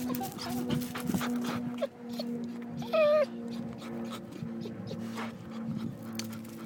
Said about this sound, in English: And this audio boo is us being cruel to our guide dogs.